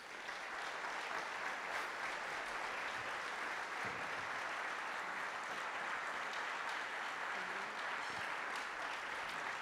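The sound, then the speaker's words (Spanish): A church audience claps steadily for about ten seconds to honour fellow believers who spread the gospel, a dense, even wash of many hands with no pauses and no talking over it. “¿Podríamos darles un fuerte aplauso?”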